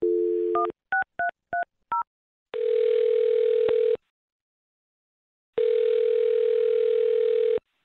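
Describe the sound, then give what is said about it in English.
A steady dial tone gives way to a quick run of dialing beeps as a phone number is dialed for a call on the radio show Brooke and Jubal in the Morning, then two long ringback tones separated by a pause, clear with no talking. “I'm going to dial his phone number right now then and see if we can get your answer.”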